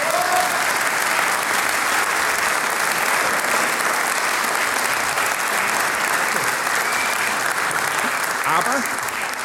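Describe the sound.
An audience applauds steadily and loudly for several seconds for the band's new trumpeter, a dense wash of clapping from a sizable crowd with a few faint voices mixed in.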